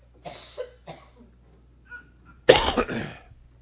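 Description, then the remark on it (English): A person coughs: two short, light coughs followed by a louder, harsher double cough after a brief pause, with no talking. “I'm sorry, I'm having trouble not coughing tonight.”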